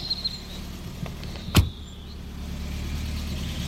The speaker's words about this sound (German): Oha, die Herr kommt mit dem Taxi.